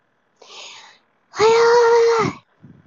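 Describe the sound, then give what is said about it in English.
A breathy intake followed by a loud, drawn-out voiced sneeze, with a long tonal cry before it cuts off, then a faint rustle. “Yeah, I think it's allergies, 'cause I've been sneezing a lot today, and I've been having a pretty rough time.”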